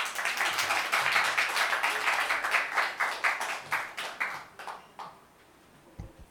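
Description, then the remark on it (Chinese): A crowd applauds to welcome a pastor, with dense, crackling claps that thin into scattered individual claps before fading out around five seconds, followed by a brief thump. “不好意思，我们再掌声欢迎牧师。”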